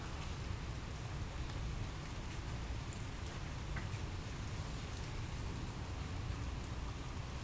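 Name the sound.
rain falling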